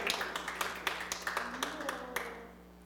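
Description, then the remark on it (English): A church audience claps together in a brief, scattered burst of sharp hand claps at moderate volume, with faint voices murmuring underneath before it tapers off. “I should get some kind of applause on that one.”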